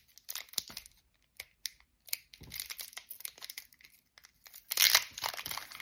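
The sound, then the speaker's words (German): An Obsidian Flammen trading card booster pack is torn open, with bursts of sharp crinkling and ripping foil, irregular short rips building to a louder, sustained tear near the end. No one speaks. “Und jetzt öffne ich mal ein Obsidian Flammen.”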